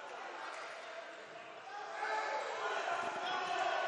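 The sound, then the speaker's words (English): A basketball bounces and is knocked around on a hardwood court during a game between the Longhorns and the George Ranch Hurricanes, amid steady crowd noise that swells louder halfway through, with a voice talking faintly in the mix. “Ball knocked around.”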